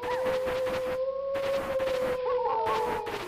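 A wolf lets out one long, steady howl that holds a nearly constant pitch for several seconds, fairly loud, with a bit of rustling noise around it.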